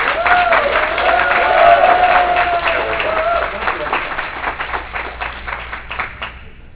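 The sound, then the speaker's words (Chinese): An audience breaks into loud, sustained applause to welcome a teacher as speaker, with dense clapping and some cheering, gradually thinning toward the end as individual claps become more distinct. “那我们就不浪费时间，我们就在这里用热烈的掌声来欢迎他”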